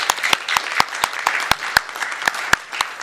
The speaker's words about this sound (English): So a round of applause for sure.